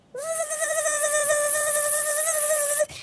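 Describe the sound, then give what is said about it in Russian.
A mosquito buzzes in flight, a steady, high-pitched whine that holds for nearly three seconds with a slight wavering pitch, then cuts off abruptly. No voices accompany it. “С этими словами, весь красный от злости, комар поспешил к охотнику.”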